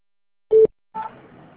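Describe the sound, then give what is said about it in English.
A short, steady electronic beep of a voicemail answering machine on an Avery Dennison business phone line sounds once, loud and clear, then cuts off and gives way to a faint hiss of line noise. “Please leave a message at the tone, and I will return your phone call.”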